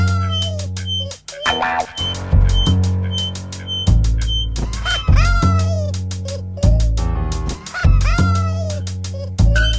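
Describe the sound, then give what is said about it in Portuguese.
A red-legged seriema calls from somewhere in a field, in a loud, rapid series of shrill yelping notes that rise and fall in pitch, building into a cackling, laugh-like chorus with no talking. “O ar parado permite que você ouça distintamente a gargalhada da siriema em algum campo, talvez muito ao longe.”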